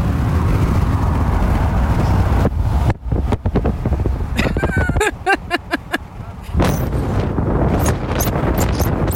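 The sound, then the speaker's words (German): Loud, buffeting wind roar blasts across the microphone of a phone held out of a car window at 140, dropping out midway into a stretch of crackling thumps and brief voice fragments before the heavy rushing returns at full force. “hat gerade sein Handy bei 140 aus dem Fenster gehalten.”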